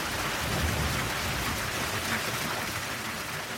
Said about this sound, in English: I'm not entirely certain what is happening down there, but there's huge levers moving, massive bearings, everything is cast in iron. It's thought to be the biggest working water wheel in the world, and it is.